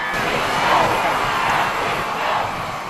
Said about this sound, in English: Thousands cheered and gave a warm welcome to Pope Francis when he stepped out of his plane in Mexico City Friday night.